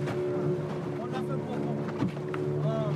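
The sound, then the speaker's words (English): A small boat's motor drones steadily while the hull, bouncing heavily, thumps and splashes against choppy water a few times on a trip around a bay at the island of Anjouan, with a muffled voice faintly in the background. “Okay, the boat is bouncing quite heavily now, and I'm getting a little bit scared. You can probably hear it on the hull.”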